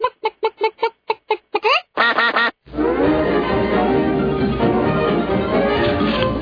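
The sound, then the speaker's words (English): A duck quacking sound effect quacks in a string of short, loud, evenly spaced calls, then a quick rapid-fire burst, before a dense wash of loud music takes over for the rest. “And that wraps the Quack Report.”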